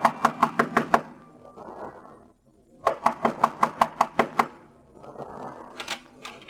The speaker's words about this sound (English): Knock on the door.